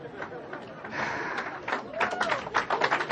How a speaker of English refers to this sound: And do y'all notice that half the room wasn't applauding? It's the most controversial thing.